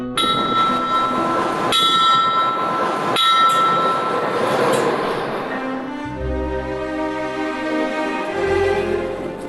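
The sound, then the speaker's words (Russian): A station bell clangs three times, then the special-purpose tsar's train pulls away from the platform in Omsk, bound for Lyubinskaya station: a deep locomotive rumble builds, joined by a sustained, loud horn, with no voices. “В этом году, когда отмечается столетняя годовщина убийства Николая II и его семьи, царский поезд специального назначения отправляется из Омска на станцию Любинская, туда, где почти сутки стоял состав”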